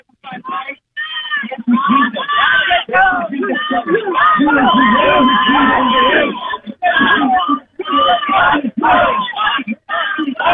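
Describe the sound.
About 500 Liberty University students chant loudly in rhythmic bursts of call-and-response shouting, heard through a held-up phone: "When I say L, you say U, L-U" and "When I say pro, you say life." Voices overlap, with short pauses between phrases.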